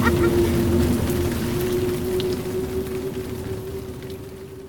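A cable car ride in San Francisco, the car moving pretty fast: a steady low mechanical hum runs beneath continuous rushing, rattling noise, fairly loud, easing slightly over a few seconds with no one talking.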